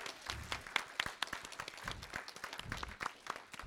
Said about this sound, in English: I think we need to give Dave and his orchestra a nice round of applause.